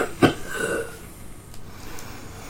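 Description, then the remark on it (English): A single short, soft cough from an old man near the start, a brief throaty burst followed by a faint voiced trailing sound, then quiet room tone. “He coughs slightly.”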